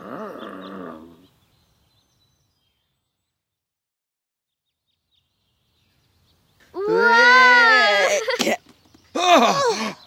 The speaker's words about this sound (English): Stop, you two! Go away, silly dog!